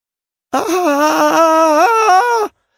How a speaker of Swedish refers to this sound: Skriker hon rakt ut.